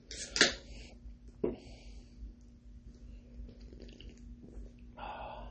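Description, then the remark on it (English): A sharp hiss as an Aslan organic beer from the Northwest (6.7% alcohol by volume, 60 IBU) is cracked open, a quick clink, then a soft, steady gurgle of the beer pouring into a glass, with no talking. “And then other than that, let's just pour this open.”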